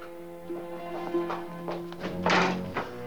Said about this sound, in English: Mario hurries back through the empty restaurant as Vittorio finishes his glass and clears away a tray of knives.